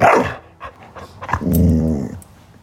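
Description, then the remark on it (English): A dog lets out a sharp bark followed by a sustained, rumbling growl, fairly loud, with no one speaking. “So when something's not right with the dog, we all feel it.”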